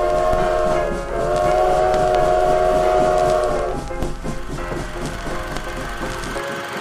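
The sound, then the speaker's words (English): A loud, sustained train horn blares for several seconds over a heavy rumble of rolling wheels as the train approaches, then cuts off, leaving the clattering roar of the passing train. “There's a train coming, sir!”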